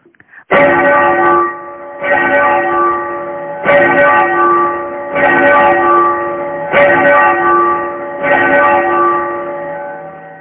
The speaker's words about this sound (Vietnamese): Câu này vừa dứt, bỗng nghe mười mấy cái chuông lớn trong chùa cùng gióng lên, vang động cả núi rừng.